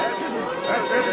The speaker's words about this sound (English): Isn't it amazing how any little thing can get a crowd together?